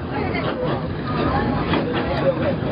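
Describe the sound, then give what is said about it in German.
A train hauled by a diesel locomotive, packed with passengers and with dozens more riding on the roof, rumbles along steadily at no more than 40 km/h with a constant engine and wheel drone, while indistinct passenger chatter murmurs underneath throughout. “Der von einer Diesellok angetriebene Zug bringt es auf maximal 40 Stundenkilometer.”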